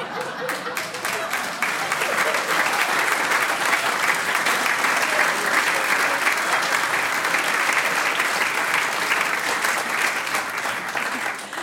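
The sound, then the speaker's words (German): Sustained audience applause fills the whole stretch, a dense crackle of many hands clapping at steady loudness, continuous without pauses. “Dir nochmal danke fürs Interview und Ihnen danke für den Applaus.”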